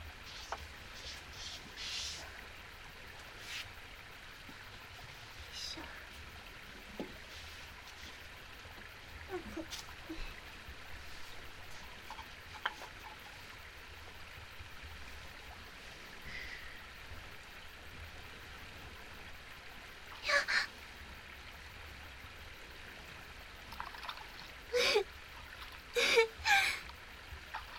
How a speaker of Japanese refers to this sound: すごく冷たい。これが川の冷たさ。私、こうして綺麗な川に足をつけるの、一度やってみたかったんです。うわぁ、つま先だけ入れると、流れ水が指の間を撫でて、なんだか川そのものが何かの生き物みたい。